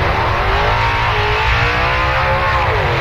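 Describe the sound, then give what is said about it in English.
A loud, continuous race car engine roars and revs during speedway races used to action-test a Bardol fuel additive. Its pitch rises and falls steadily over a few seconds, with no voices present. “Action tested in the Bardol Road and Speedway races.”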